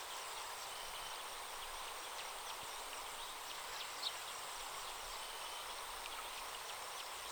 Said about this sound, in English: Listen to the leaves, the gentle sound of the birds, and the running of a nearby stream.